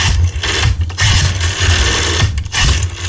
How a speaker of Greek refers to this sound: Έχω και ένα τηλέφωνο με ρόδα εδώ πέρα.